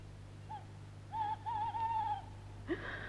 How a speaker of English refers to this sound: Oh, if that owl cries again, I shall have hysterics.